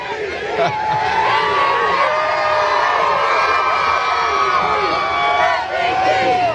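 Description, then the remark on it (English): A large crowd at a Disney World parade for Eagles quarterback Jalen Hurts, Super Bowl 59 MVP, cheers and shouts continuously, with many overlapping high voices, whoops and excited calls forming a loud, steady roar of celebration with no pauses. “It's a hell of a crowd out here.”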